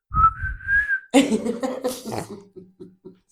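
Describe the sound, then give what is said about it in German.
A clear, high whistled tune line rises gently for about a second, then gives way to breathy laughter and coughing that break into short rhythmic bursts. “Scheiß Rumgepfeife, kann ich nicht abfüllen.”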